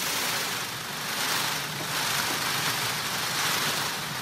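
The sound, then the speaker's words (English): A male Indian peafowl's train rattle: a steady, hissing rustle of his quivering outstretched tail feathers, like a soft drum roll, swelling and easing slightly for about four seconds with no voices. “As this male Indian peafowl quivers his outstretched tail, it creates a rustling sound, almost like a drum roll.”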